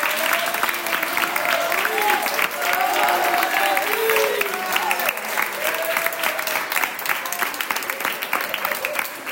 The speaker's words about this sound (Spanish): Un aplauso, ¿eh?